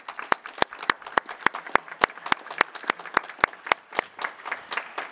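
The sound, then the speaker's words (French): Colleagues applauding the interpreters who accompanied them: a steady patter of many hands clapping, with sharp individual claps standing out in a quick, irregular rhythm, moderately loud and with no voices. “Je me permets d'inviter nos collègues de tous ici et toutes ici d'applaudir très fortement les interprètes qui nous accompagnaient.”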